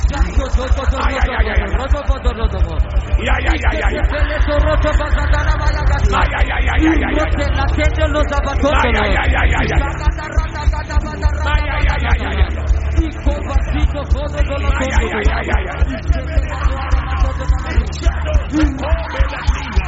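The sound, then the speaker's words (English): A large audience, hands on their heads, screams "I receive" together at the count of five, in loud, overlapping voices, a sustained roar of many people yelling at once with rising and falling bursts throughout. “In the name of Jesus, at the count of five, you place the hand on your head and scream, I receive.”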